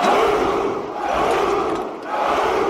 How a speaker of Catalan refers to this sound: A veure... un moment, que em sembla que tinc algun crit de guerra per aquí. A veure... ¡Espartanos! ¿Cuál es vuestro oficio?